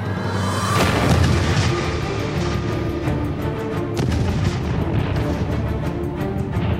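A heavy blast from an early cannon at Crecy booms out, followed by a long rolling rumble and a second sharper report a few seconds later. The thunderous roar stays loud throughout, with no voices.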